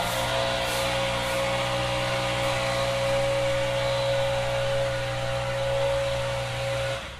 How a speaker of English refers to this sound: Why can't they put a muffler or something like that on these leaf blowers? That is the question of the day.